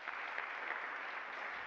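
Steady applause from a crowd, a dense wash of many hands clapping at an even level throughout, with no voices standing out.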